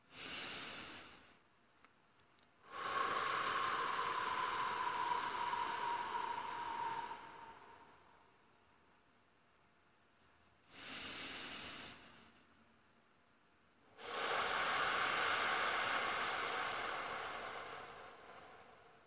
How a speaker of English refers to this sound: Next, extend your exhale. You can slow down the air on the exhale by pursing your lips. Let's do it a couple of times right now.